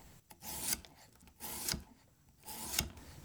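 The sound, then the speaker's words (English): A knife slices homegrown pickling cucumbers into thin rounds about 1/4 inch thick: three crisp, rasping strokes about a second apart, each ending in a sharp tap on the board, with no talking. “And I'm just going to slice these into thin rounds, not super thin, because again, you want to retain that crunch.”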